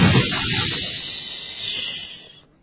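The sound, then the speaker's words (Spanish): A voice imitates a bottle rocket firework (a stick with a firecracker and fuse, set in a bottle and lit) with a long, breathy hiss that rushes steadily for over two seconds, swells slightly near the end, then cuts off. No words are spoken. “Pues es un palito con un petardo, con una mecha que se pone en una botella y uno lo enciende y hace...”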